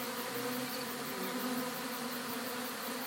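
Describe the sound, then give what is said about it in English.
Bees buzz steadily and continuously, a dense droning hum with no pauses, fairly loud throughout, with no voices present. “Come back for you bees.”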